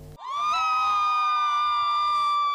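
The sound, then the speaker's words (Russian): A crowd of Novgorod university students cheers loudly in support at a competition, their high-pitched voices rising into one sustained, unified shout that holds steady for a couple of seconds, energetic. “Ну а теплая и громкая поддержка новгородских студентов досталась всем”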